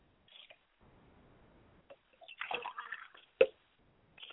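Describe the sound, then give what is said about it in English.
Water is poured and splashes in a short irregular burst lasting about a second to ritually purify a person, preceded by faint trickling and followed by a sharp knock and another brief splash. “And I'm going to get cleaned up now and get myself all purified.”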